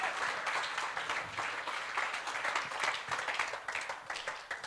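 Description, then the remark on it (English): An audience breaks into sustained applause to praise God, many hands clapping in a dense, steady wash that holds fairly loud for several seconds with no talking. “If you're going to praise God, praise him and give him a proper wenn hand clap.”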